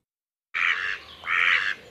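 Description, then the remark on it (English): A mallard duck gives two loud, harsh quacks, each about half a second long with a short pause between, and no voices are heard. “If you've been feeding the ducks on a park lake this winter, it's likely that most of them are mallards, and some of them may have travelled farther than you think.”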